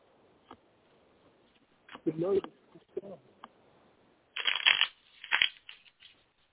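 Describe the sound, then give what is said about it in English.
A deck of cards being shuffled for a card reading, in several quick, papery riffles, a short burst first, then a longer, louder flurry of cards fluttering together. “Give me a moment to shuffle.”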